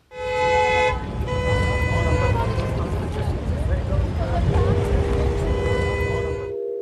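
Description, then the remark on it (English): Loud, sustained car horns blare continuously over dense traffic noise in a scene from the film The Italian Job, with a brief break near the start before the honking resumes and holds to the end, a busy street din underneath. “Right, traffic, horns, calm, meditation, Michael Caine in the Italian Job.”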